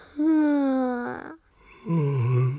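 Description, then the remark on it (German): Two drawn-out vocal yawns from a tired parent waiting at a children's doctor, one after the other: a long first one sliding slowly down in pitch, a short pause, then a lower second yawn, both fairly loud. “Das Gähnen steckt an, meine ich.”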